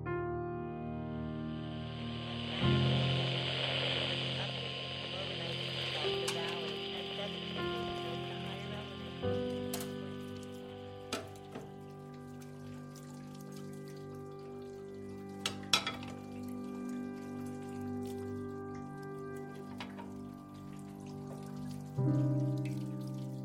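Running water hisses steadily with a few sharp clinks now and then as dishes are washed after lunch, while a low sustained hum of tones plays underneath at moderate volume.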